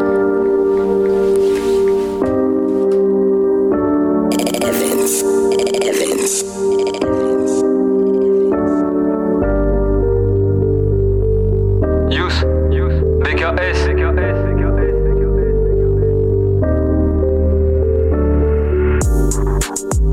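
A rap song intro plays loudly and continuously, with layered melodic tones at first, then a heavy, booming bass line dropping in about halfway through.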